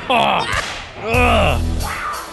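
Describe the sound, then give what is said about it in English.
A voice imitates whooshes heard coming from a car in a Pathmark parking lot: two or three loud swooping vocal sweeps that rise and fall in pitch, each ending in a breathy hiss, with no other sounds around them. “I was in the Pathmark parking lot, and all of a sudden I could hear from the distance, whoosh, dear, wow, whoosh.”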